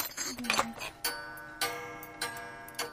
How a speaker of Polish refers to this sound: Te zegary mają bardzo fajny dźwięk. Bardzo lubię sygnał tego zegaru.